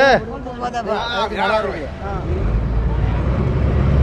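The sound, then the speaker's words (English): A ferry's engine rumbles low and steady, swelling louder through the second half, while indistinct voices chatter at the start, as the ferry crosses the lagoon from Malé to the artificial island of Hulhumalé. “You catch a ferry from a part of Malé where motorcycles clog the narrow streets and fishermen gut their morning catch on the sidewalk.”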